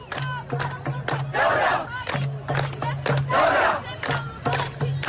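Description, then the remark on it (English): A large crowd of protesters at the protests in Sudan chants in loud, rhythmic bursts around a young woman standing on top of a car, with two big swells of roaring shouts rising between the beats of the chant. “There's a large crowd of protesters surrounding her. There's also video of this moment.”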